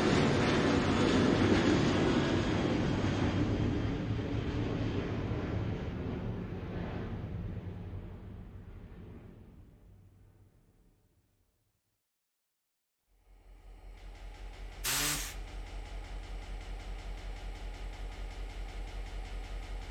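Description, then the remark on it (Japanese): A small blue steam train of the Darjeeling Himalayan Railway, nicknamed the Toy Train, running with smoke through soft greenery at nearly 2,000 metres altitude, rumbles and clatters steadily before fading away into a short silence; then its running noise returns, broken once by a brief sharp burst of hiss. “柔らかな緑の中を煙と一緒に進む小さな青い汽車。これはダージリンヒマラヤ鉄道の車両です。”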